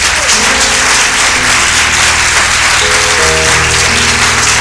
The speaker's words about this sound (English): Well, it's a good time to clap our hands for Jesus.